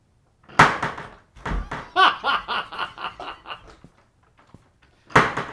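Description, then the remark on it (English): A door bangs loudly, followed by a heavy thud, then a burst of laughter, and the door slams again at the end with a sharp crash, in an exaggerated recreation of a person coming in the door. “coming in the door every day.”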